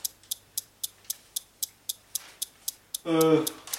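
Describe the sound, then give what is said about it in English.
A device ticks rapidly and evenly at doubled speed, something like 3.642 hertz, after being pedalled and a button pressed: about fourteen sharp clicks in quick succession, clear, before a burst of voice cuts in at the end. “has the ticking gone double speed again?”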